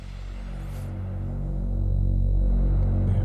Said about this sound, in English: Definitely very a Moog classic one. Moog drone sound with some noise and added white noise to it and the typical build up, the filter cut off.